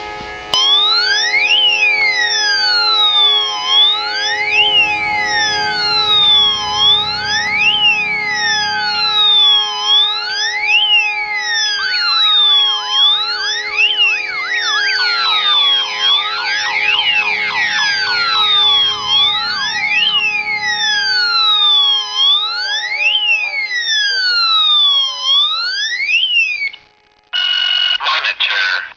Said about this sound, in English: Now I'm going to trigger the alarm to see how long it's going to call my cell phone.